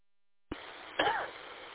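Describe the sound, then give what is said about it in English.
A single short cough bursts out over a thin, steady radio hiss, sounding somewhat muffled, with a brief rasp trailing off afterward. “Looks like we're both having a coughing”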